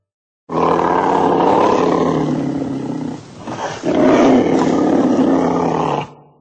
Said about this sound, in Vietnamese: Một con bạch hổ ở đầu phóng tới và gầm lên, làm mọi người kinh hãi lùi lại.